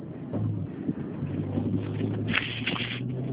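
car maneuvering

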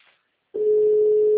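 telephone tone

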